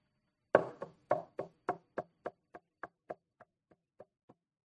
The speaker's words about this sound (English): He knocks.